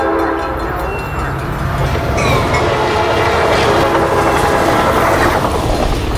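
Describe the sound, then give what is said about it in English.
An Amtrak Hiawatha passenger train, which runs between Milwaukee and Chicago, rumbles past with a steady, loud roar and rhythmic clatter of wheels, while a sustained horn blast sounds partway through and hangs over the noise. “Let Amtrak Hiawatha take you between Milwaukee and Chicago.”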